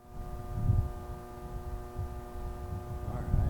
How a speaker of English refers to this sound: And that hum is exactly what you think it is. The buzz of electricity is everywhere in this field trip.